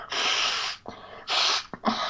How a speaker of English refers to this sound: Sorry, I was like in the middle of talking, and I was like, I feel my nose running. This is gross. And now it's gonna be even grosser because you guys get to hear me blow my nose. Here we go.